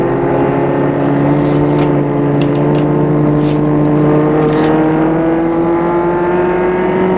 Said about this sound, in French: La voiture file dans la nuit.